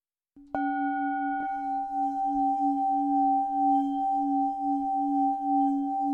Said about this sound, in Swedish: eller framförallt den här skålen med den tonen, att den, speciellt när man liksom drar längs med, att det blir som en sån här, när man drar på vinglas.